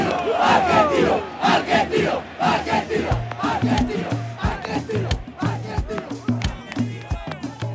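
A stadium crowd at an Argentino Juniors match roars and cheers continuously as the players come out one by one onto the field from a Maradona figure, a dense wash of many voices with shouts and chanting bursts rising over a steady low rumble throughout.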